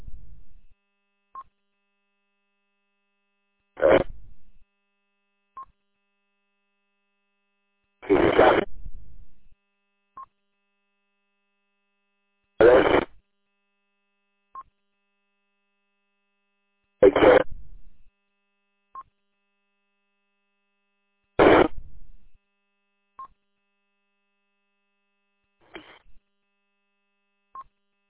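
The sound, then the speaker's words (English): Ham radio static from someone transmitting whose signal cannot be made out comes in harsh bursts lasting about a second, six of them at steady intervals of roughly four seconds, with faint short beeps in between and no voices. “Somebody's there, but it's all static.”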